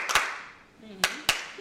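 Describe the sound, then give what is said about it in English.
A conference audience claps together in unison following a speaker's instructions: one sharp, crisp clap, a pause, then two quick claps close together, with a faint murmur of voice in between. “When I clap once, you clap once.”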